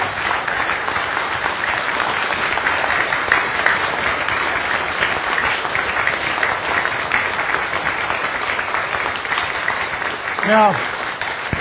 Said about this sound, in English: And we just one more round of applause for our speakers. Thank you guys.